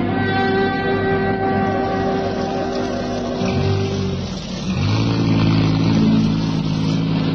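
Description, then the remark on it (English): A utility truck's engine runs loud, its steady drone dipping briefly in pitch before revving back up as it pulls in alongside a car in the rain, with no one speaking. “I'll pull the utility in alongside of your car so that you won't have far to walk in this rain.”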